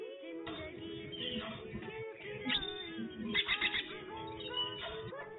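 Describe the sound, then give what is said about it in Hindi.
A sparrow chirps busily and continuously, its quick bright notes tumbling over one another, with a few louder bursts partway through; no one speaks. “आपने कहा चिड़िया, आपका जवाब दुरुस्त है।”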